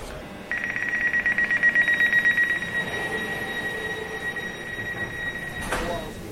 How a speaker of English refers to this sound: Train approaching platform A to your Elizabeth line service. This train will call all stations to Abbeywood.